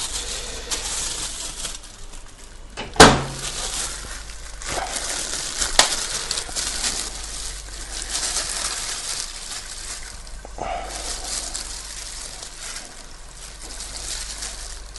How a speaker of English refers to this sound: Okay, our onion's started to sizzle now, so we'll put the mince in, which we'll get out of the microwave.